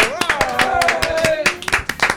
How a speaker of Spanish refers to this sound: ¡Fuerte el aplauso!